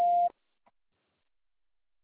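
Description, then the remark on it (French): A single short electronic beep on an automated French taxi-booking phone line, signalling the caller to state their pickup address, a steady mid-pitched tone lasting about a quarter second, followed by silence with only a faint tick. “Prononcez distinctement après le bip sonore votre adresse de prise en charge en précisant la ville.”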